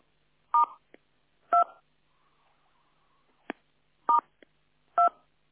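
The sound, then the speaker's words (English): Four short touch-tone phone keypad beeps, pressed while trying to unmute conference phone lines, each a dual-pitched electronic tone, pressed at uneven intervals with faint clicks between them, clear with no talking. “Take a deep breath in as I unmute the phones for our prayer of intention.”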